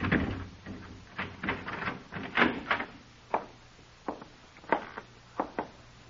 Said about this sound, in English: Go on, open the door.